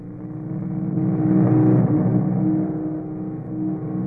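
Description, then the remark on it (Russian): A whole squad on motorcycles rumbles past with a steady, throbbing engine drone that swells to a peak midway, then eases off slightly. No voices. “Целый отряд в мотоциклах.”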